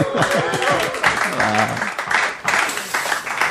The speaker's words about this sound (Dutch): heeft al een applaus gekregen, maar die krijgt er nog een.